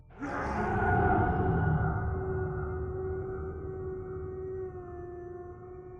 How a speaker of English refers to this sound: She reluctantly reached out, before another of those haunting wails howled out in the distance I couldn't pinpoint.